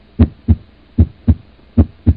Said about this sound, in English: He gets in the car. And drives. His heart beats.